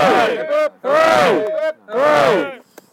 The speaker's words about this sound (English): Three cheers for London. Cheers. And three cheers for Yorkshire, hip hip.